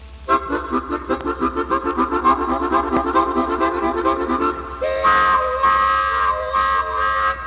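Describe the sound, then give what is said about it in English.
A musical imitation of a train: fast, steady chugging pulses of harmonic tones, then held, wailing whistle-like chords near the end. Loud, with no talking. “The train, musical version.”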